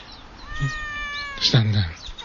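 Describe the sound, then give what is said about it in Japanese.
A cat lets out a short, drawn-out meow at moderate volume as a microphone is held toward it, followed by a brief rustle and some low murmuring. “よく泣く猫ちゃんですが、ちょっと泣き声は入りませんでしたかね。”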